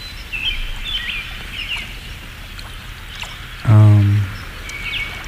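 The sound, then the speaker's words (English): A steady babble of flowing water runs throughout, with scattered bird chirps above it and a brief, loud low-pitched tonal drone near the end. “We also have 3 more minutes of babbling brook.”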